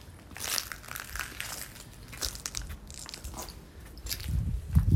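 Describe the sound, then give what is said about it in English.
Broken glass from a fifth-floor window at a bomb site crunching and grinding underfoot on the street in an irregular series of gritty crackles, louder and heavier toward the end, with no voices. “This is some of the broken glass that just came out.”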